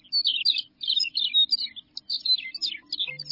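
Grassland bird songs in Montana's grasslands fill the air: rapid, high-pitched warbling and tinkling phrases repeating continuously, fairly loud, with a faint low hum beneath and no voices.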